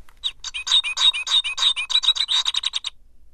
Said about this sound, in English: I'm going to push the button next to American goldfinch. Hold it right up to the microphone. And you'll see what it sounds like.